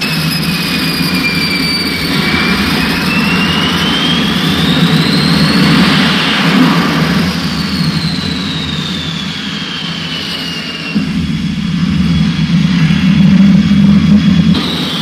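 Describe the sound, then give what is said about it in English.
A jet aircraft engine roars steadily and loudly as the plane comes in to land on an aircraft carrier deck in the Atlantic, the pilot's first carrier landing, with high whining tones that slowly rise and fall over the constant rumble. There are no voices. “this moment, even more important, it will be the pilot's first landing on a carrier deck.”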